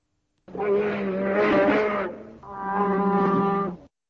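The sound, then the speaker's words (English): A bear, the largest beast of prey in Europe, in a forest gives two long, deep bellowing calls, each droning steadily for about a second and a half with a brief pause between them. The calls are loud and tonal, with no talking. “The correct answer is the bear, the largest beast of prey in Europe.”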